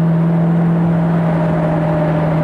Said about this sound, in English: This is permanently connected, so we'll just get that. There's the manifold vacuum. There it is. The supercharger boosting. Oh, gotta love this car.